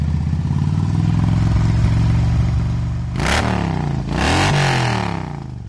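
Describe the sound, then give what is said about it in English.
A motorcycle fitted with aftermarket exhaust pipes idles in the woods with a low, steady rumble for a few seconds, then the throttle is blipped twice, each rev rising into a louder, rougher roar before settling back toward idle. “To me, that's not an obnoxious level of sound at an idle. Yeah, people can hear it run or whatever.”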